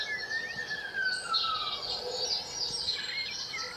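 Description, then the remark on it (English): A blackbird mimicking an ambulance siren sings a quiet run of whistled, siren-like glides: a long falling tone followed by higher warbling notes, heard alone over faint background hiss. “That's apparently a blackbird.”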